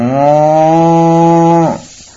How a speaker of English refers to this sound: Nandishwara resounds with the mooing of cows,